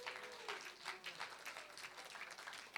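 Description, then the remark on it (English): An audience breaks into steady applause for Jesus, many hands clapping together in a dense, sustained patter at moderate volume, with faint voices mixed in. “Yes, give him a round of applause.”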